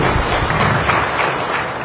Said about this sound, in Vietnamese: Rồi cho anh chàng pháo tay đi.